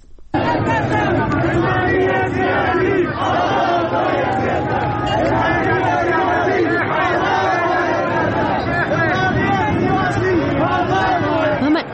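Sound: street protest crowd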